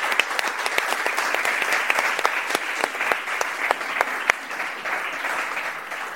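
An audience applauds a guest invited back onto the stage, clapping steadily for about six seconds in a dense wash of many hands, with a few sharper individual claps standing out, holding an even loudness throughout with no talking.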